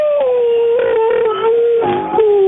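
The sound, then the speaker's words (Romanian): A single long wolf-like howl, loud, held steady on one wavering tone for a couple of seconds, with a slight dip and rise near the end. “Și urmează a treia variantă, lupul din pădure.”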